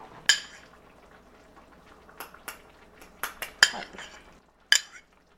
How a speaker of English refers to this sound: Speaking of, it's time to open the pot and check in on the dish. Ooh. Well, let's check and see if the rice and the meat that we put on top are done.